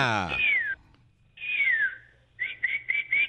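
A northern cardinal's whistled call: two long, clear downward-sliding notes, then a quick run of four short bright whistles. It is loud and rings out alone after a brief buzzy sound at the start.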